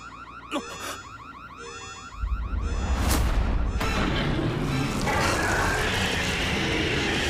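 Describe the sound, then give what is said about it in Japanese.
An alarm blares in rapid, repeating sweeping tones that rise and fall, then a heavy low rumble and a sharp boom break in, leaving a loud, continuous roar beneath the fading alarm. “なんだ警報。”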